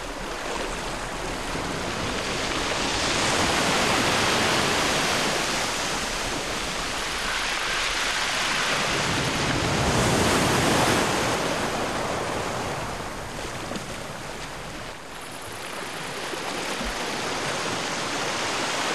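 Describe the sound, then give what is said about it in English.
Waves of an aquamarine sea, under a high sun in a blue sky, wash onto the shore in slow, broad swells, a steady rushing hiss that rises and recedes roughly every several seconds, continuous with no voices. “The sun is high in a blue sky, and beneath it is an aquamarine coloured sea.”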